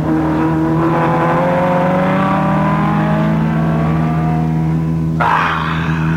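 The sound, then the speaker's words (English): A loud race car engine revs in a sustained, buzzing drone that climbs gradually in pitch as the car passes another during a race, then shifts abruptly into a rougher roar near the end. No one speaks. “Well, you hear what's happened to my car?”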